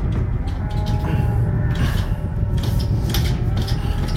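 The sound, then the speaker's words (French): A stuck double door rattles and clunks in a few short bursts as it is pushed, over a steady low rumble of background noise. “Il y a une double porte, là. Ça a l'air de mener sur un plateau industriel ou... Je sais pas. La porte est coincée.”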